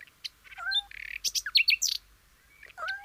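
Several birds chirp and trill in quick overlapping bursts, bright high-pitched calls with short whistled notes, clear, with no talking.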